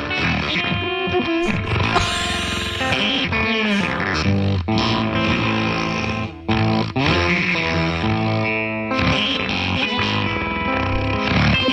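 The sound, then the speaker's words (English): Dense, heavily processed guitar playing through a fart effects pedal, with a buzzy, sputtering fart-like effect on every note, loud and continuous with a brief dropout midway, smeared and distorted throughout. “You guys don't like the fart pedal?”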